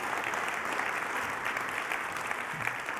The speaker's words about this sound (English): And can I get a round of applause from anybody who's received the love and support of a church family through your life group in the last year even in this place?